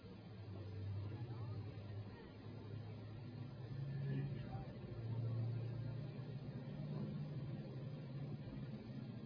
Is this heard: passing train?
yes